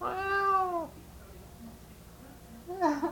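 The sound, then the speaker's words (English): A man imitates a cat's meow to a dog: one drawn-out, falling meow, a quiet pause, then a shorter rising meow at the end. No talking. “He thinks there's a cat out in the backyard, but he can't see it.”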